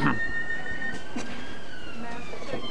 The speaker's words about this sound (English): So this is one of our lovely modern trains.